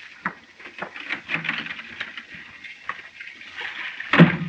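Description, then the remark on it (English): Steady hiss of water running from a tap, continuous, with a few soft clatters and bumps mixed in and a brief louder splash near the end. “Turn off the water”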